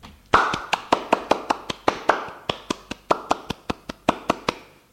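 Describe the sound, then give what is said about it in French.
Applause for a girl who has just finished reciting, in a steady rhythm of crisp, sharp claps, roughly four per second for about five seconds, fairly loud with no talking over it. “Elle a fini, l'on applaudit.”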